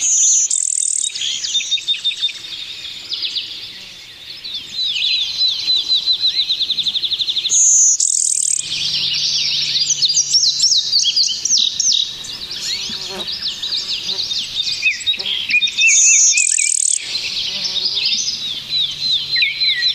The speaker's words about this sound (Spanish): en medio de la pandemia del COVID, han vuelto a volar, a hacer escala y cantar libremente sobre las aceras, las calles, los árboles, los cables del tendido eléctrico y los edificios de Nueva York. Aquí tienen ustedes las voces de esas aves.